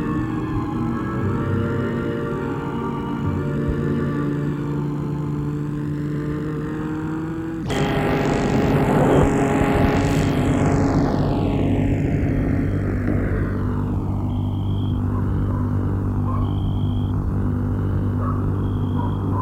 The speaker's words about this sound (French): Il a arrêté sa voiture devant le portail.